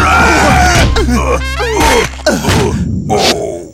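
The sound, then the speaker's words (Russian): A football bursts with a sharp pop as two players kick it at the same time, then two voices yell and groan loudly as they tumble to the ground, with a thud and scuffling. “Он разлетелся на куски, а Копатыч с Лосяшем с воплями повалились на землю”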